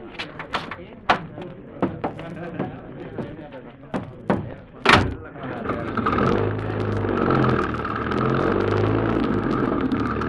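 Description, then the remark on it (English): Several sharp knocks and door slams come first, then a car engine turns over and settles into a steady, rumbling drive that continues to the end, fairly loud. “I have a car waiting.”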